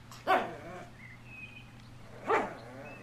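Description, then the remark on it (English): Two sharp dog barks about two seconds apart, with a faint high whine between them, all over a low, steady background hum. “It's the dog days of summer, so I've surrounded myself with dogs to bring you the latest Big Scary Show, Episode 165.”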